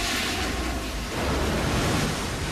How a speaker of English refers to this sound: They hold their breath as a bright blue liquid starts to fill the room and swirl around them. From above, it looks like a giant toilet, the liquid flushing them down a hole in the center of the room.